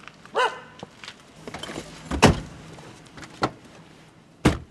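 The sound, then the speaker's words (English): Houston Mayor Bill White getting into a car in a driveway at the start of his morning commute, carrying a black mug of coffee and a sheet of papers: a few sharp clunks and thumps, like a door opening and shutting, with soft rustling and shifting in between and a final solid slam. No one speaks. “He slips into the car carrying a black mug of coffee and a sheet of papers.”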